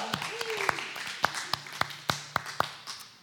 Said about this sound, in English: I do want to say happy Mother's Day. This is the first opportunity. Yes, round of applause. It's very fitting.